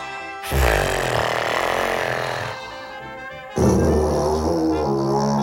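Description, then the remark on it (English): A tuba blown through buzzing lips by someone trying to play it blares low, buzzy notes: one loud, rough tone held for about two seconds, a softer wavering stretch, then a second strong blast that sustains to the end. “But in order to get sound, you blow through buzzing lips.”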